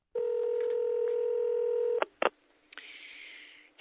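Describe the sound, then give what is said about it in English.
A steady telephone dial tone holds for about two seconds, then two quick keypad beeps sound, followed by a thin, hissy line tone, all with narrow, phone-line quality. “Unless you're on the phone.”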